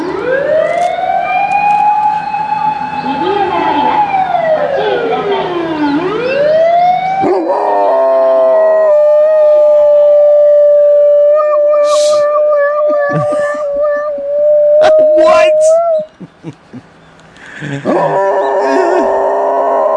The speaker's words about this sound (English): Whenever a fire engine drives by, whenever the dog hears a fire engine, he starts howling and goes into this fire engine mode. And I don't know why, but that was what McNabb reminded me of. I've got this clip of the dog.